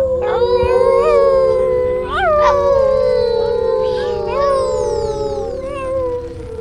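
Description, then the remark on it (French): A werewolf howls loudly, a long wavering cry with rising and falling pitch, layered with other howls that overlap continuously for several seconds. “Les loups-garous.”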